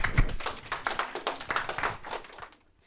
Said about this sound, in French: Félicitations, merci, bravo, on s'applaudit.